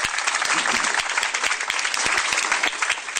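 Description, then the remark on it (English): A crowd applauds steadily in a round of applause for the teachers of the year, dense clapping filling the space with a sustained, fairly loud wash of hand claps, with no voices standing out. “How about a round of applause for our teachers of the year?”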